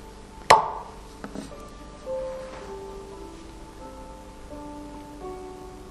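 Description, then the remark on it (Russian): The ice of an ice massif in a national park cracks with one sharp, loud snap and a few smaller ticks, then settles into long, eerie creaking groans whose tones glide and waver in pitch while fading gradually. “А пока настраивайтесь на звучание этого восхитительного ледяного массива.”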